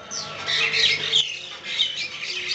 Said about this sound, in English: now occupied only by a colony of cackling birds